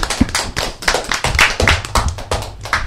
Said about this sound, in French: Et je propose que vous vous applaudissiez pour terminer.